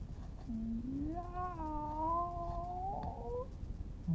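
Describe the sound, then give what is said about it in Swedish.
A single long, drawn-out meow from a cat lying under the stove rises and wavers in pitch for about three seconds, loud, over a low background rumble, with no one talking. “Mjau på dig själv, du.”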